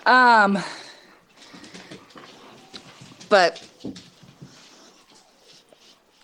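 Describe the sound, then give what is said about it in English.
A dog whines and yelps in two short, high, squeaky bursts, one at the start and another midway, while a person talks in between; the dog is fussing affectionately at its owner. “Sorry, my other dog. He's loving me.”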